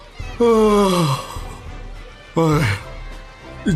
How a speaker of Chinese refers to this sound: 安琪熊作为蓝队的守门员，望着一直集中在对方球门外激烈争夺的红蓝两队，打了个大大的哈欠。